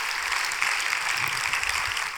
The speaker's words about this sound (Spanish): Si Dios le habló hoy, dé un aplauso al Señor, que Él se lo merece. Amén.